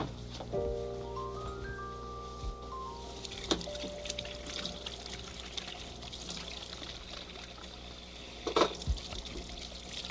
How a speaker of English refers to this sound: Well, pretty soon time to go. I think I'll wash my hands before we go.